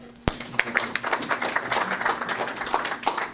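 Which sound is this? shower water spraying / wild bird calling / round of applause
round of applause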